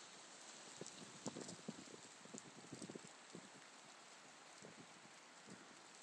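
Steady rain falls in a continuous soft hiss, with scattered heavier drops pattering on a hard surface. No voices are heard.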